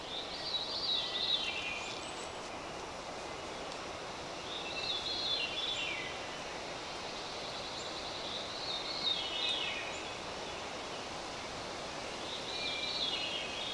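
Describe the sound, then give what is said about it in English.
Bird song from a veery straight ahead and a pine warbler to the right in a dawn chorus: four descending, breathy song phrases repeat every few seconds over a steady rushing background of outdoor ambience. “Well, it's the veery straight out ahead of us, the pine warbler to the right.”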